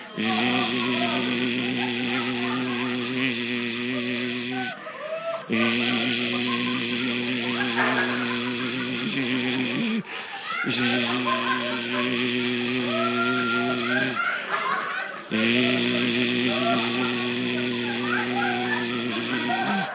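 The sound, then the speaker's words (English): A crowd of voices at a meeting imitates a power drill, as if putting drills on their neighbors' shoulders, making a loud, steady buzzing drone in four long bursts, each separated by a brief pause. “So take your drill, put it on your shoulder, on your neighbor's shoulder.”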